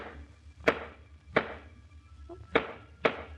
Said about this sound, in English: Squeaky place in the floor. She's fixing it. And I wish she wouldn't. I'll miss it.